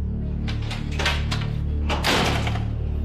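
The metal gate of Janet's house swings open with a harsh, clattering rattle in two loud bursts, set against a steady low hum, with no voices.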